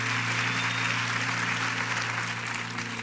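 A church audience applauds steadily for a guest youth pastor, a dense, continuous clatter of many hands clapping at an even loudness for the whole stretch, with a low steady hum underneath and no voices.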